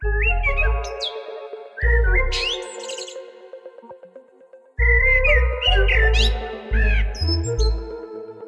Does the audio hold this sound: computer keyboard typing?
no